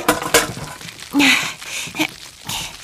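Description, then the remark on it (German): A series of hard knocks and clatters as a load of quince quarters is tipped into a large cooking pot, with a sharper rattling burst near the middle and a few scattered thuds after. “Die Quittenviertel wandern jetzt erstmal in einen schönen großen Kochtopf. Ich bin schon unterwegs und kippe die Ladung Quitten hinein.”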